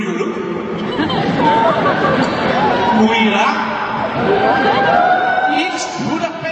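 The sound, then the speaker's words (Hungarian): A large concert crowd in Budapest cheers and shouts in a dense, steady roar of many overlapping voices, with scattered whoops rising above the noise throughout, greeting a guitarist on 4 November 2017. “Ez pedig már … köszöntése volt 2017. november 4-én.”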